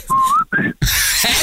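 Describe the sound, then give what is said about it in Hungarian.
Two steady whistled tones rising slightly in pitch, each under half a second, followed by a burst of noisy rustle; a person whistling in imitation of the telephone tone heard when dialling a wrong number. “Amikor rossz számot hívsz.”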